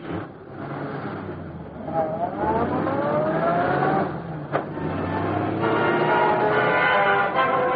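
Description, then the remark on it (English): A car engine revs up, its pitch climbing in steady sweeps, then keeps droning loudly as the vehicle pulls away, with a brief knock partway through. No one speaks. “Let's get him to the car.”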